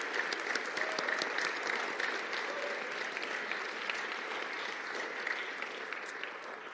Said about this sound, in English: I know we don't normally clap in this church, but I'm going to ask, let's give it up for our Christmas program participants.